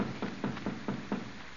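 Five quick, evenly spaced knocks by someone at a wooden back door, muffled and moderately loud, with a steady background hum and no voices.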